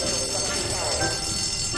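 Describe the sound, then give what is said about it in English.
Firehouse alarm sirens blare continuously, a loud, harsh buzzing tone layered over dense noise, holding steady without a pause for the whole moment. “Mona stands in the firehouse as the sirens and lights go off around her.”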